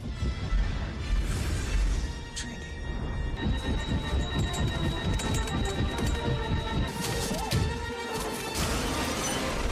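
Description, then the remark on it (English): A helicopter crashing into a building in a scene from the film The Matrix: a dense, continuous roar of smashing and shattering glass with heavy rumbling impacts throughout, over a steady high-pitched mechanical whine, loud and chaotic for the whole stretch. “That noise, Anna? Yeah. Is him holding up a helicopter.”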